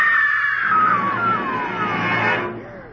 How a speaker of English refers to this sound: Did you hear that woman scream? Yes. It came from that parked car.